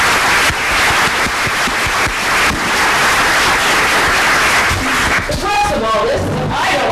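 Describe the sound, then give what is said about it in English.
Sustained audience applause for the panelists of a panel, a dense, steady wash of clapping lasting about five seconds, before a voice starts speaking as the clapping tapers off. “So thank you so much for joining us, and give a hand for our panelists today.”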